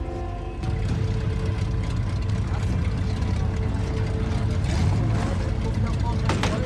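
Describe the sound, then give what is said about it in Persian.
A car engine idles and runs steadily, producing a continuous low, humming drone with a slight rumble that stays fairly loud throughout. “قرار نبود کسی ماشین رو بیرون ببره.”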